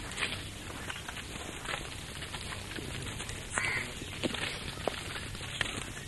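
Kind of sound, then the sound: bird, crows cawing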